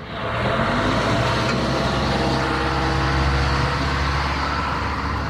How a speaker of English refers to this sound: It's a rainy Tuesday in Kenya's second capital city, Mombasa. I have alighted from public transport matatu to take a public transport motorcycle, commonly known as boda boda, to the area known as Katisha.